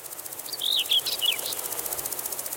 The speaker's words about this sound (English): It's generally the male bush crickets and grasshoppers that do the singing, and they do it partly to attract the attention of females, but partly also to demonstrate their prowess in competition with other males.